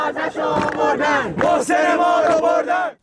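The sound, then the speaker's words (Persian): A large crowd of university students protesting against executions, widespread repression and student suspensions chants in unison, voices loud and strained, rising and falling in a steady rhythm of shouted phrases before cutting off abruptly. “بر پایه ویدیوهای منتشر شده در شبکه‌های اجتماعی، دانشجویان به اجرای احکام اعدام، سرکوب فراگیر و تعلیق دانشجویان اعتراض کردند.”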